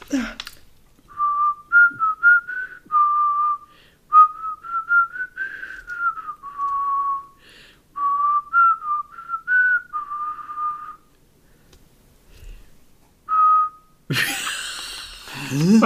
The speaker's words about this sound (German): Was wie anstrengend es ist zu pfeifen.